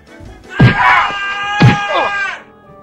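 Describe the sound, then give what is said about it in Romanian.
A man of the people of Israel cries out and groans in pain as an Egyptian beats him with a whip, his strained voice wavering across two sharp lashing cracks about a second apart, loud. “Săracul om plângea și se văita de durere, dar egipteanului nu era milă de el.”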